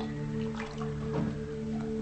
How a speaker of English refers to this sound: In the kitchen, she pours water from a tea kettle into a mug.